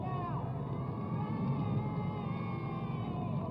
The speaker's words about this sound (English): Sounds of the motorcycles in the background as they flank the papal car that lead it out of the World's Fair ground next to the Belgian Pavilion, which is sort of that rustic setting on the left.